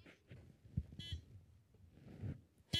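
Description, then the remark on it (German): A car or truck horn honks twice, a short blast followed by a louder one cut off at the end, over a low, muffled rumble. “Hupen. Gehupe von irgendeinem Laster oder Auto.”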